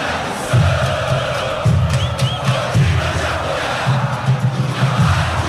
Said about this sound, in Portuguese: Sinta a atmosfera do Couto Pereira, torcedor fazendo o seu papel. Sobe o som pra torcida do Verdão.